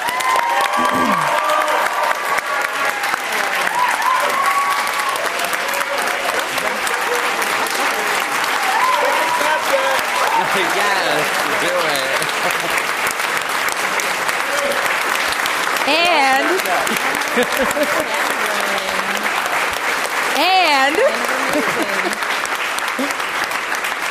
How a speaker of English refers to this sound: So you're already doing it, but let's give a big round of applause to our panelists.